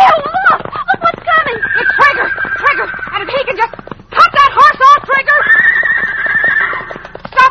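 A huge red stallion neighs loudly and repeatedly as it charges after riders while protecting its band of mares, shrill whinnies rising and falling in quick bursts, with a short pause midway before another agitated round of neighing starts.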